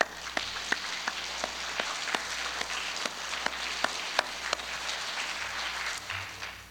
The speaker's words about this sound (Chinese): 所以在我们教会呢，我就鼓励弟兄姊妹把双手举起来，向着天向着神我们鼓掌，我们把一切荣耀归给主，我们也谢谢他们。